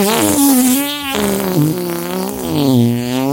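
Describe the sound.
A loud buzzing raspberry blown with the lips into a microphone, imitating a fart, sustained for about three seconds with wavering pitch.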